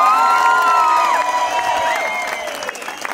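A loud crowd cheers and applauds, high whoops and shouts layered over dense clapping, holding steady and then easing off slightly toward the end.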